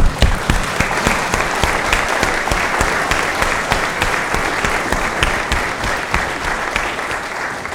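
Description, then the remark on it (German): Sustained applause from a church audience, a dense steady stream of clapping at even loudness for several seconds, with no voices over it. “Und das verdient nochmal einen Applaus.”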